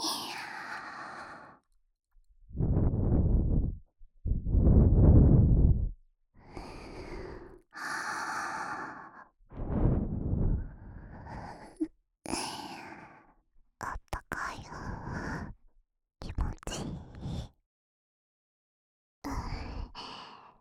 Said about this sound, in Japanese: 耳、吐息で敏感にしてあげますね。